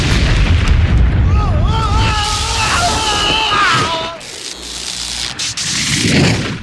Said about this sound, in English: And I'm going to put on Evil Dead 2 at that particular scene when the door breaks open.